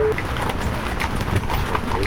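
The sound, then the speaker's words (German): The hooves of horses pulling a horse-drawn peace-bell wagon trek (Friedensglocken-Pferdetreck) clip-clop in a steady, even rhythm, a string of sharp knocks over a constant low rumble that stays at the same loudness throughout. “Hufgetrappel, knirschende Räder im Schotterweg oder Regentropfen aufs Dach.”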